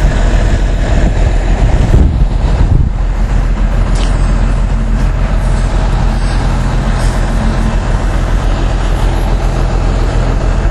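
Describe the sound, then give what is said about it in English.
A large truck backs up and maneuvers, its loud diesel engine rumbling steadily throughout, with a brief surge of heavier low rumble early on and no voices. “Just be careful, because he's the back of the truck. He can't see when he's backing up.”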